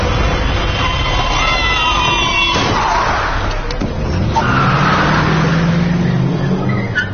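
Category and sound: vehicle, car approaching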